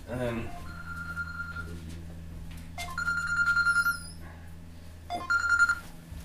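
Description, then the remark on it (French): A mobile phone ringtone chimes in three repeated bursts of bright electronic tones, with a low steady hum underneath and a brief voice-like sound at the start. “Portable, parce que sinon, ça sonnait tout le temps.”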